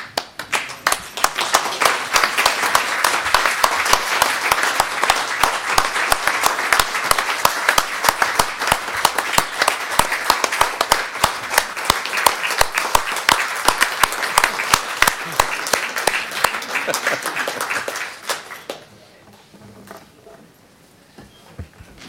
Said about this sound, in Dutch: Ik stel voor dat we staande hem uitgeleide doen met een applaus.